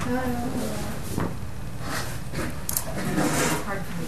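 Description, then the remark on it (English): A chair is moved into place for someone to sit: it scrapes and bumps across a hard floor in several short, uneven pushes, with muffled voices talking around it. “You want us to move the chair there, dear?”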